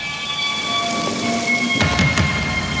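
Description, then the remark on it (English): Steady rain hisses throughout a thunderstorm, with a sharp burst of thunder crackling in near the end. No one speaks; a faint sustained tone hangs beneath the downpour. “Oh, and it's ominous. Storm clouds.”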